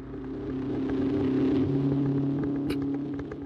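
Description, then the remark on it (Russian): A car engine drones steadily with a low, rumbling hum as the car drives away toward the top of an island, holding fairly even before easing off slightly at the end, with no voices. “Машина с Миста и его противником поехала к вершине острова.”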